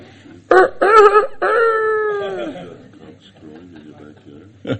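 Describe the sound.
A person loudly imitates a rooster crowing, with two short voiced bursts leading into a long, drawn-out call that slides downward, followed by quieter murmured talk.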